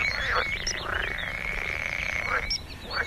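A dense chorus of frogs croaking without pause, a buzzing, rasping trill with rising and falling calls overlapping on top. No voices, just the steady frog noise throughout.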